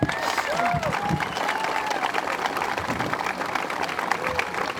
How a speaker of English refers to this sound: So enjoy them all, and enjoy your day here at Cedar Point. Thank you very much. Again, a huge round of applause for Mr. Hildebrandt and Mr. Kinzel.